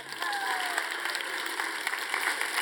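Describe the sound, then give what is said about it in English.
A steady wash of audience applause, many hands clapping together in a dense, crackling patter that holds at an even level throughout, with no voices breaking through. “And you may clap now.”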